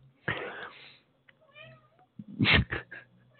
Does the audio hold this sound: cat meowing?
yes